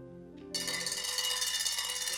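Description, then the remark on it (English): A bell rung by a boy rings loudly, bursting in after a brief soft tone and continuing as a bright, sustained metallic clanging with rapid, overlapping strikes. No voices are heard. “Ring the bell, boy. Loud.”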